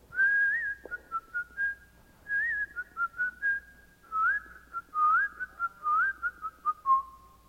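Someone whistles a cheerful melody, a steady run of clear, bright notes with short gaps between phrases and small upward slides, no talking alongside.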